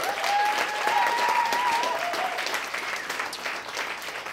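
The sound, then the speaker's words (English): Audience applause for everybody on stage at the end of a show, ringing out as a dense, steady patter of many clapping hands, sustained at an even level for several seconds, with a faint whistle-like tone briefly cutting through near the start. “How about another round of applause for everybody on stage?”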